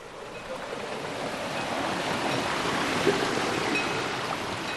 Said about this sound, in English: In the summer months in Sfaneti, the rivers flow fast,